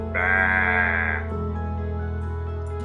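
A single sheep bleats once, loud, for about a second, over a steady low droning tone that keeps going after the bleat fades.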